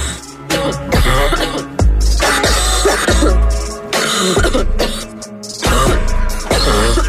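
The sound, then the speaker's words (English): A remix by a DJ for radio station 97.1 AMP: a thumping dance beat with bass and synths, built from a listener's chopped, repeated coughs and throat-clearing sounds that land rhythmically in the groove, loud and upfront, with no one talking. “it sounds like you're going to be able to get a handle on your cough. We are all going to miss it, but we will forever have this.”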